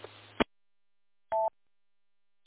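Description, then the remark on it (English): A short burst of radio static cuts off with a click, followed after a pause by a single brief electronic beep, a radio repeater courtesy tone, then another click. “So as soon as you hear the little static or if you hear the little repeater beep noise, you can just interrupt that there.”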